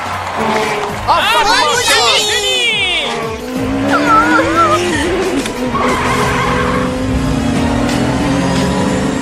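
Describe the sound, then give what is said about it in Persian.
Race cars roar past while tires skid and squeal in sweeping, high-pitched bursts on the final lap, as rookie driver Marshall races Whoosh's powerful car for Team Whoosh against Cheetah. The racing noise stays loud and busy throughout, with voices mixed into the action. “ببینین اون راننده تازه کار چطوری داره ماشین قدرتمند ووشو میرونه.”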